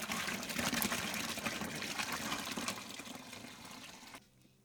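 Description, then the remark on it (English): Hot liquid pours steadily into a bucket holding dandelions and lemons, a dense, splashing rush of water that continues for about four seconds before cutting off abruptly, leaving a faint residual hiss. “Okay, here comes the hot stuff. Into the bucket.”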